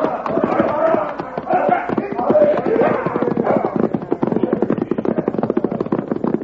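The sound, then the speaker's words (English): Several horses with riders gallop off down a trail in a rapid, pounding flurry of hoofbeats, loud, with a dense, continuous drumming rhythm that carries through the whole stretch, while voices mingle underneath. “All right, man, hit the horses. Let's ride.”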